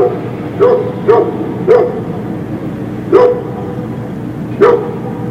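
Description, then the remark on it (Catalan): A grey dog barks five times in short, sharp bursts, irregularly spaced with a longer pause in the middle, clear over a steady low background hum. “És un gos de color gris, és molt mono, li encanta el pienso i dorm molt.”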